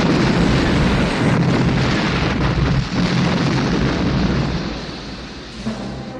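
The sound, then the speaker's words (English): A huge, loud explosion of a hangar blowing up at a base roars continuously with deep rumbling and crackling debris, slowly tapering off near the end with a small late pop. No voices. “And when he's at the base, that explosion when the hangar blows up is one of the best that I've ever seen, I think.”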